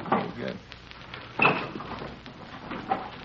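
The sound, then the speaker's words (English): A dresser drawer full of dirty T-shirts is pulled open and searched in a rented second-floor rear room: a few scattered bursts of wooden scraping and soft clattering, with one louder rattle midway and quieter shuffling between. “Did you turn something? Yeah, drawer full of dirty T-shirts.”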